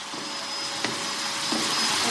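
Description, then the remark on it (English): A steady vacuum cleaner drone runs throughout, with a faint high whine and a couple of brief knocks as the nozzle bumps against something, as books are being vacuum cleaned in a library reading room. “They're actually vacuum cleaning the books.”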